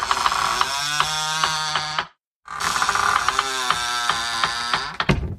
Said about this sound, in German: Genau, also es soll eine quietschende, knarrende Tür sein, die aufgeht.